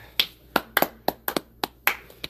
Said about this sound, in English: Yay! Yay! Everyone clap!